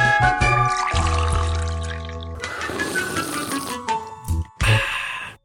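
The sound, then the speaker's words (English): Coffee pours into cups with a rising, gurgling trickle, mixed with clinks of ceramic, fairly loud, ending in a couple of sharp taps before stopping. “Coffee's ready.”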